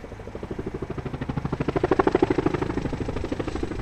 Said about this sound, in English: For the past 2 weeks, the hills above Oahu's famous North Shore have echoed with the sound of rotor blades and automatic gunfire. Some 5,500 soldiers have been taking part in the Army's annual war games, known as Lightning Forge.